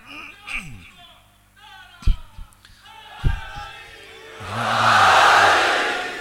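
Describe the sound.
A single voice calls out, then a large crowd answers with a loud, sustained chant of a religious slogan from Kohat, the massed voices swelling into a roar near the end.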